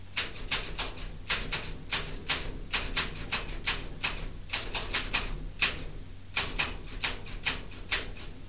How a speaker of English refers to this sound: Typewriter, take it away